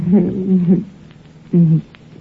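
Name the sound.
coyote howling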